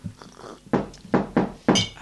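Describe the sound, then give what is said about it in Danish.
Glasses clink together several times in quick, uneven succession, bright sharp taps with short ringing tails, as people toast with drinks, and no one speaks. “Ej, skål. Nu, vi skal lige skål.”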